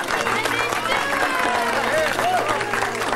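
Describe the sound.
A crowd at the launch of the book The Secret Life of Gnomes applauds steadily, a dense wash of many hands clapping at once, with cheering voices and chatter mixed in throughout. The sound stays loud and unbroken from start to finish.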